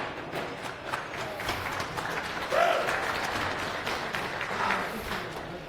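An audience applauds steadily, a dense wash of many hands clapping at even loudness with a brief swell midway, and a faint murmur of voices underneath.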